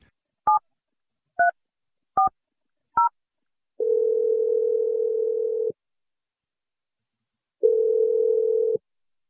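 Four quick touch-tone keypad beeps as a phone number is dialed, followed by two long, steady ringback tones separated by a pause, with no one talking.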